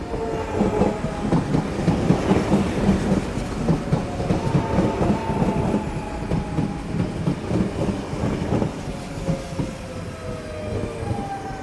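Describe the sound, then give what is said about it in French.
At a large Paris railway station, a train rumbles steadily along the rails with a rhythmic clickety-clack, thin whining metallic tones drifting above the heavy, continuous low roar; no one speaks. “Le décor représente la salle d'attente d'une grande gare parisienne avec un banc, deux haut-parleurs et une grosse horloge dans le fond.”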